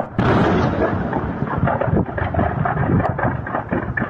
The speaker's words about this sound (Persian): صدای انفجارهای پیاپی زاغه مهمات لشکر 12 ارتش سوریه در حومه استان درعا پس از حمله هوایی اسرائیل.